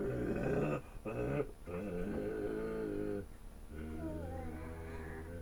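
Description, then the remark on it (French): A drawn-out, mournful roar from a human voice imitating a lion: loud, groaning in a few long, wavering pushes with short breaks, ending in a falling whine. “Il s'arrêta enfin, la langue pendante, et eut un rugissement plaintif.”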